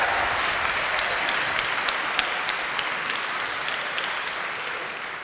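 A crowd applauds the creation of the Consumer Financial Protection Bureau under Dodd-Frank, a steady, dense wash of many hands clapping that holds at an even loudness for several seconds with no voices standing out.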